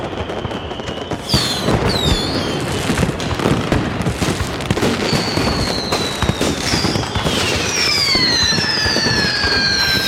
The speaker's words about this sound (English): if you're going to fire your fireworks out of your car, park it. Don't do it while it's driving. That's not safe. You pull over to the shoulder and you do it.